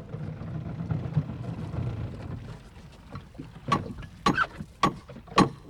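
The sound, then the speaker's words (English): A low engine-and-water rumble fades out, then a fishing boat's hull is beached on the shore at the mouth of a river, beside a tourist restaurant under construction, with a handful of sharp knocks and scrapes, irregularly spaced. No one speaks. “Manolo beaches his fishing boat at the mouth of the river”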